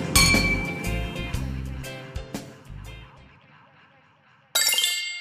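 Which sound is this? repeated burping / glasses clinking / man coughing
glasses clinking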